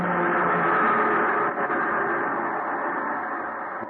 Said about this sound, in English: The PE train going by.